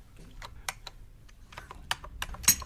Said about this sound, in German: Hauptsache, sie tapst auf der Tastatur herum und macht mir angenehme Gefühle.